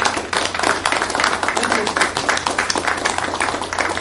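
A crowd applauds steadily for about four seconds, a dense, even wash of many hands clapping at once with no single claps standing out, fairly loud throughout.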